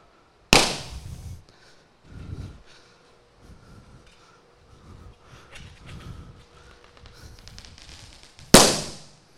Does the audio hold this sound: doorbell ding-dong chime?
no